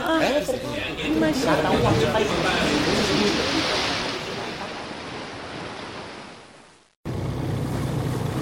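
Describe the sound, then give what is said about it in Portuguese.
Sea waves wash steadily around a small rowing boat on the open sea as fishermen row, in a loud, rushing surge. The surge slowly fades, breaks off abruptly, then returns. Faint voices are mixed in near the start. “Os pescadores remam enquanto olham atentamente para todos os lados.”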